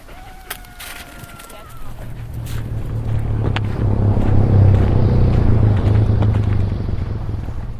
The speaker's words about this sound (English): On this day in Iqaluit, the capital of the Arctic territory of Nunavut, pickup trucks drive up and down the main street